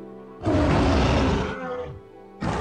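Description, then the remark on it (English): A lion lets out a loud roar that rumbles for about a second, fades into a lower growl, then a second roar starts abruptly. “And into the lion's den, Daniel went.”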